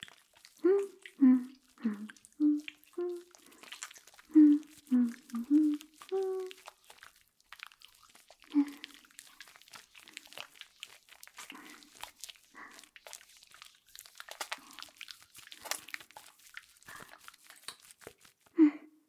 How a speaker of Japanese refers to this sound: 泡立ちもいい感じ。じゃあ背中から洗っていくね。